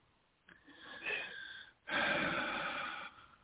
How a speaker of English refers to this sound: Okay. Breathing with you. Breathe into that.